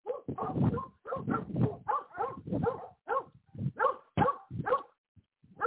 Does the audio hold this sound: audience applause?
no